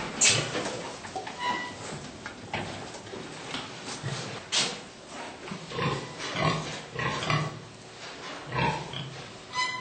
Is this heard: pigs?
yes